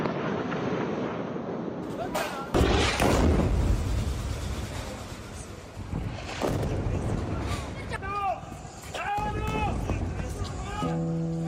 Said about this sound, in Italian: A Gaza, nei momenti in cui non c'è stata la tregua, che purtroppo è durata pochissimo, c'era un costante rumore dato dai droni che pattugliavano il cielo praticamente 24 ore su 24 e dai rumori delle esplosioni.